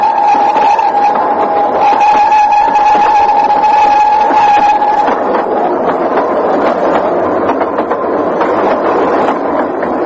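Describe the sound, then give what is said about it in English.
A fast train rushes past below, skimming away over the landscape, loud and continuous, with a steady high whine over rumbling noise that gives way to rattling, clattering wheels. No one speaks. “A rapid train passed below me and was skimming away over the landscape.”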